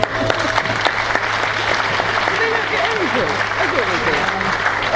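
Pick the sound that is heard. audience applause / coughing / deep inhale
audience applause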